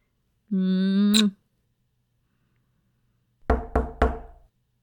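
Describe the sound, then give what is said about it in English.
Three quick, firm knocks on a bedroom door, evenly spaced, preceded by a brief sustained buzzing tone and a stretch of quiet. “Well, when you're done, I'll be in the bedroom. Knock before you come in, okay?”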